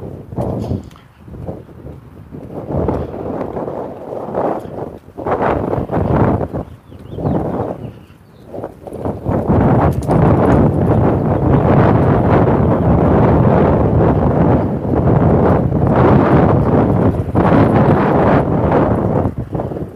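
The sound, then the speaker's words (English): Strong wind buffets the microphone outdoors as the recordist walks toward a barn with the wind at their back: loud, low rumbling gusts, intermittent at first and then constant and roaring through the second half, with a broad hissing rush above. “Ooh, that wind is really, really is whistling.”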